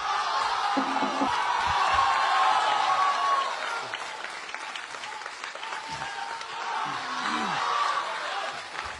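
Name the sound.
audience applause and cheering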